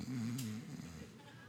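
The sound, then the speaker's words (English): A person mimics loud snoring with their voice: one drawn-out, rumbling snore with a brief raspy burst, fading into a softer breathy tail, unaccompanied. “My Savior snores.”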